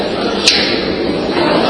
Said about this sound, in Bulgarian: Това беше балон, не се притеснявайте.